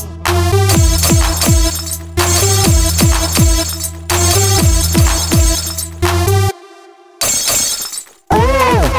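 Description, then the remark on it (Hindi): Glass shatters repeatedly in loud, ringing bursts, a few crashes looping one after another with resonant tones trailing off, then a brief noisy smash near the end. “अरे ये कांच किसने तोड़ा।”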